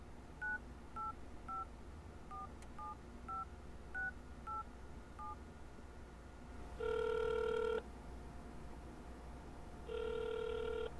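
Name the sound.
telephone keypad dialing tones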